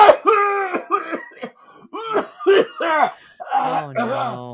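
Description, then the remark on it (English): A person imitates coughing and choking on a donut in a coffee shop: a fairly loud run of strained, voiced hacking bursts, ending in gagging, croaky sputters. “And I was coughing. I was choking on this thing.”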